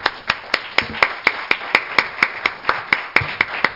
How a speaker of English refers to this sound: One more hand clap.